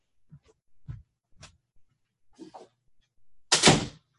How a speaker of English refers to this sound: So as far as that's concerned, and I'm just going to go shut my bathroom door, because that is bugging the heck out of me.